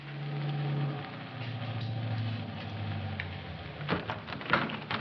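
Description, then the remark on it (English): A car engine hums, its tone dropping as it pulls up in front of a hotel and idles, then a few sharp clunks and clicks follow near the end. “And then in about a half hour, a car pulled up in front of the hotel.”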